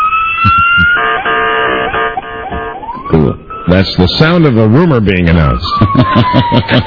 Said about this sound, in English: Can I give you the celebratory siren for you? Pardon me? I'm on duty. Can I play the siren for you? Sure.